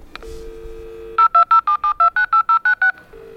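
Door intercom dialing tones at artist Ryan Gander's studio in East London: a steady electronic hum, then a quick, evenly spaced run of about eleven loud two-tone beeps, ending on a short lower tone. No one speaks.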